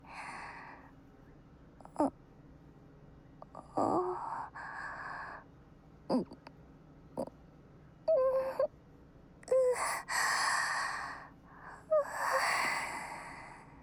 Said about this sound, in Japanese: お兄ちゃんのあくびの伝染力すごい。